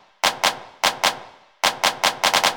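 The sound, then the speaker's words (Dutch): A drum machine handclap beat: sharp, bright claps in quick pairs with short decaying tails, speeding into a rapid burst of five at the end. No voices. “En dan een klap. Een klap? En zo'n klapmachine.”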